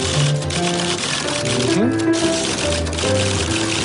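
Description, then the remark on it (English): Rapid, continuous keyboard clatter, a dense rattle of keystrokes going on nonstop, heard amid voices and background noise; a world-record typist typing at 216 words per minute on David Letterman's show. “Yeah, we found a clip of … typing on David Letterman.”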